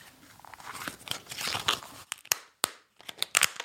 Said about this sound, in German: Ja, aber wenn wir da auf die zugefrorenen Seen gehen und dann Schritte auf diese Seen machen, ne? Also spätestens, wenn es dann irgendwie, wenn wir diese Töne hören.